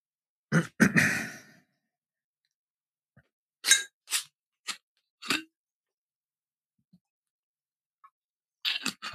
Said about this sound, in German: Und ich muss nur mal kurz Nase putzen. Moment, ich bin gleich wieder da.